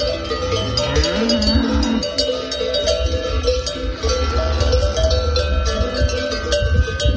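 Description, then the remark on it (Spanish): A dense, continuous clatter of many cowbells clanking at once as hundreds of cattle set off on their journey near a village of about 30 inhabitants in Gredos, Spain, with a low drawn-out moo rising beneath the jangle near the start, all fairly loud. “Los cencerros, los mugidos de las vacas junto al vídeo.”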